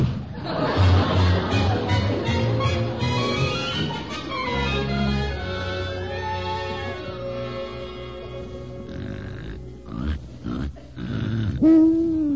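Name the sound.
loud snoring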